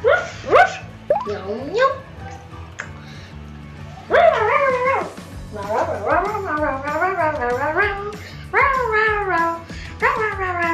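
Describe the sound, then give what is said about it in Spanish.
A child's voice imitates a dog to start an invented dance, yelping and barking in repeated short bursts with rising and falling whines, fairly loud, over a low background hum. “Mi baile va a ser sobre un perro y empieza así.”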